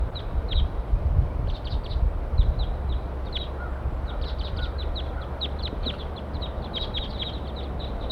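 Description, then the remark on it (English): A flock of about eight wild birds calling all together in a pine, with many short, high-pitched chirps repeating and overlapping for the whole clip, heard over a steady low rumble of background noise. “Eight birds all together now.”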